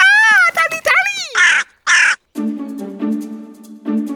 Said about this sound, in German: Ein besonders interessanter und intelligenter Rabenvogel ist die neukaledonische Krähe. Sie kommt aus Neukaledonien, einer Insel bei Neuseeland.